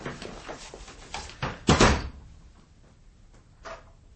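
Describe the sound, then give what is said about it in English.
A door leading to an inner room is handled and swung: a few light clicks and rattles, then a louder wooden thud as it shuts, followed by a quieter latch click after a pause. “That door leads only to an inner room.”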